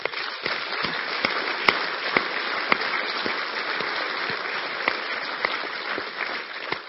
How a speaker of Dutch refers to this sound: Er zijn nog meer mensen die keuze willen maken voor het aangezicht van God. Hier in deze dienst. Vind jullie geweldige helden. Laten we ze een applaus geven.